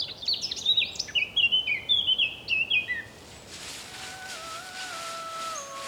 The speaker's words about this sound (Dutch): Sst, stil. Hoor jullie hem? Daar, dat is hem. Kijk, daar tussen de bladeren, daar zit hij. Oh, hoe klein. Maar wat een stem. Nachtegaaltje.